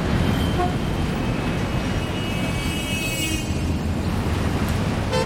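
Steady, dense city traffic in Lyon rumbles with engines and road noise throughout, and car horns sound faintly within the continuous din.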